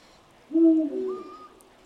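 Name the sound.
eurasian eagle-owl hooting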